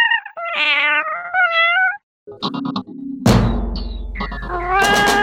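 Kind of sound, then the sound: animal, cats meowing and caterwauling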